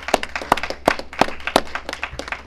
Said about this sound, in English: So a round of applause to you and your team here.